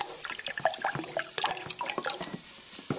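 Two cups of chicken broth pouring from a 1-quart grocery-store carton into a mixture, a steady splashing stream with bubbly glugs and gurgles running for about three seconds, with no voices.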